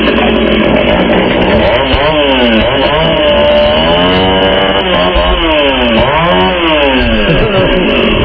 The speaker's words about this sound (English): Yeah, I enjoyed the flames and I all, but the chainsaw was the top. You can't go wrong. As we go to break, let's hear that mighty chainsaw again, my friend. Here we go.